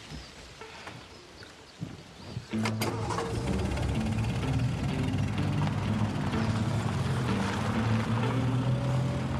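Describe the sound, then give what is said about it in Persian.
A car engine cranks and catches at once, then settles into a steady, loud rumbling idle that continues to the end, with faint background noise before the start. “ماشین وامونده رو آتیش کن بریم.”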